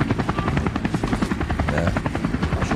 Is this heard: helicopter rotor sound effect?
yes